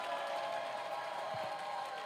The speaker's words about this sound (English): Clap your hands and let's receive our Father.